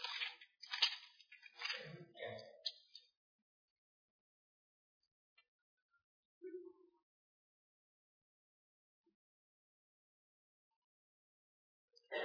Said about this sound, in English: Daniel chapter 6. I got to tell you, it's nice to hear Bible pages turning.